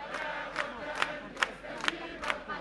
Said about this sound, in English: As the funeral march continued, the crowd sang the country's national anthem, just as they did during the revolution 2 years ago.